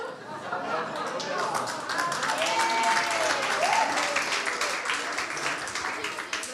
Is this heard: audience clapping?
yes